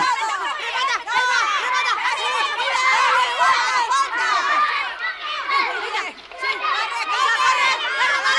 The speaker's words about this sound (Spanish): En la plaza del oratorio, el párroco arbitra un partido de fútbol entre chavales. Todos van tras la pelota. ¡Oh, qué barullo! ¡Esta confusión va contra el reglamento!